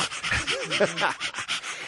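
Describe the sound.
A person imitates a dog panting, with rapid, rhythmic breathy huffs repeating throughout two seconds, fairly loud, with some voiced tones mixed in.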